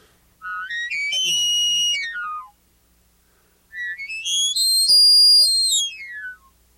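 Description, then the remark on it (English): Two long bull elk bugle imitations blown on an elk call, each a high, whistling tone that climbs, holds shrilly, then slides back down, separated by a short silence, with no talking. “I've got another call over here, and this is another sound that bull elk will make, and I think it's just chillingly beautiful.”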